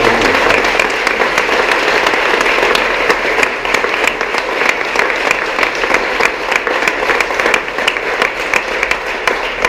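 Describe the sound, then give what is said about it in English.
A crowd applauds steadily for about ten seconds, a dense, even patter of many hands clapping at once with no voices standing out, staying loud throughout. “Ladies and gentlemen, we give a big round of applause, please.”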